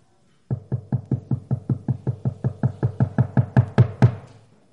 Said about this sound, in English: Matter of fact, he stands at the door and knocks.